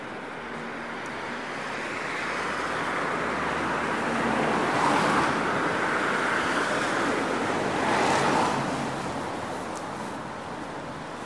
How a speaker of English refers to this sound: Aside from the odd Saturday celebrators, there's a nice quiet energy to this part of Edinburgh. The sound's just slightly muted by the rainfall.